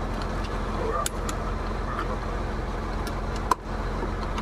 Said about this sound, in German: Mach die Tür auf zum LKW.